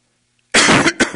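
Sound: coughing and throat clearing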